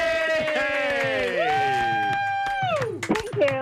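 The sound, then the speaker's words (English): A small audience cheers with long, rising and falling whoops, with a few scattered claps underneath, lasting a few seconds at a steady, fairly loud level. “Let's just clap again.”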